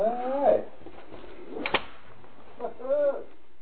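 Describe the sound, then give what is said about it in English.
A person backing up closes the heavy door of a booth, which swings shut with a single sharp thud midway through, bracketed by brief vocal sounds from a person just before and after. “So I'm backing up to close the door.”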